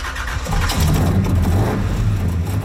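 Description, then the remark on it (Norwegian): The engine of the real-life Il Tempo Gigante car from a Norwegian animated film rumbles, catching at first, then idling with a deep steady throb that rises and falls as it revs a little, with no voices. “Se på denne flotte bilen her!”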